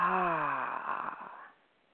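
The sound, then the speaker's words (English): A single audible breath out through the mouth, part of a slow, intentional breathing exercise. It begins as a soft voiced sigh and fades into airy breath over about a second and a half, with no talking. “In through the nose, remembering that beautiful spine and our sacral area, and out through the mouth.”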